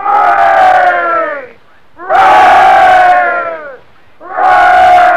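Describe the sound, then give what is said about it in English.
A crowd of sailors cheers for their captain, who saved them with his fiddle, in three loud, sustained bursts of shouting, each lasting over a second, with brief pauses between them, like rousing hoorays. “Let's give him 3,000 cheers.”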